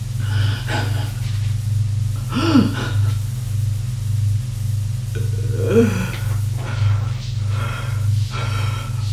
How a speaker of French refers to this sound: Tout à coup, il pleure. Se plaque deux contre la porte. Se laisse glisser sur le sol. Et là, il pleure. Un moment.